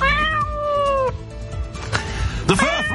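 A cat on a London Underground tube train lets out a long, drawn-out meow, then after a pause gives a shorter, wavering yowl, both loud over a low background rumble.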